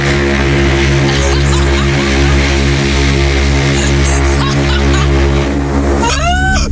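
A loud, prolonged honking nose blow, steady and buzzy like a trumpet for several seconds, ending with a few squeaky rising whistles. It is close and heard alone, with no talking.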